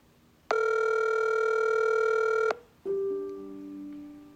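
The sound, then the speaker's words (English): An outgoing phone call rings: one steady two-second ringback tone, clear, then a brief pause and a second, lower tone that fades out. No one speaks. “I called some phone numbers connected to him until”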